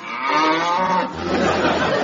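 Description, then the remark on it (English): A cow moos loudly, one long drawn-out bellow that swells, briefly dips, then rises again into a rough, throaty lowing, with no speech present. “You get nothing for a cow”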